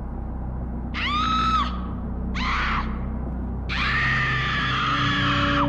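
A woman screams loudly three times in short, piercing bursts, the last one longest, over a steady low rumble like a car engine on the road.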